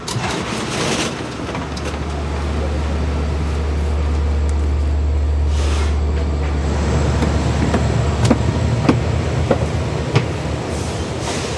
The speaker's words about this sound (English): We just got onto a fancier train with higher head rests and two stories and a bathroom.